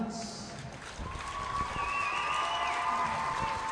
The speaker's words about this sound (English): The senior girls get a big hand here from the crowd, and they've certainly accomplished an awful lot on the basketball floor, and most of them played on the volleyball team.